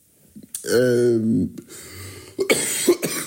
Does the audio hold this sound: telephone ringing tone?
no